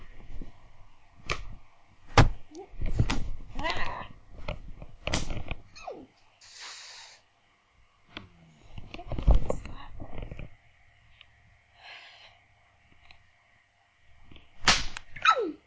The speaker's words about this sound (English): Slap your inner thigh.